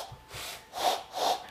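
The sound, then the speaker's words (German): Someone imitates an owl with diarrhea using a trick with the hands: four breathy, sputtering blows in a steady rhythm, the last two louder with a faint hooting whistle through the air noise. No talking. “Eine Eule, wenn die Durchfall hat, so hört sich die vielleicht an.”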